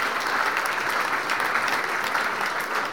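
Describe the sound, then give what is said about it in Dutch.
Sustained applause from an audience at a car presentation, a dense, steady patter of many hands clapping at once, fairly loud, filling the full few seconds without any talking. “Ja, geef hem een applaus.”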